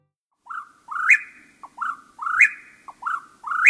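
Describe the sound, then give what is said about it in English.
A whippoorwill calls its clear, whistled three-note phrase over and over at dusk in a steady, rapid rhythm, loud against an otherwise quiet evening background. “Is this sound of the whippoorwill at dusk part of your memory?”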